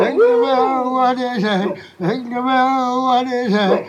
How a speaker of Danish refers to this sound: Okay, så bliver det jo endnu sjovere på den langt dybere end haha, der er en hund, der synger med, ikke?